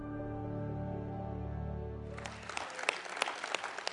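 A sustained musical chord gives way midway to an audience breaking into applause at a Calvary Church midweek Expound gathering, many hands clapping in a dense, crackling burst that continues to the end.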